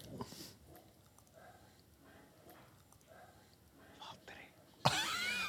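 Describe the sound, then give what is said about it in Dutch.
A voice softly imitates a racing car engine in breathy, whispered bursts that rise and fall, before a sudden louder rush of noise at the end. “Ja, die speciale grap van de geluidsdingen van die... Dat je dan heel zacht... de auto. Ja. Doen ze dan na.”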